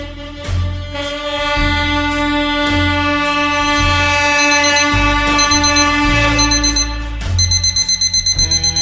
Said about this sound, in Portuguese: Acordado abruptamente pelo despertador do celular, Danny levantou de sua cama